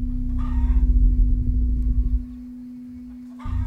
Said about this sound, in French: Le bruit de la poule.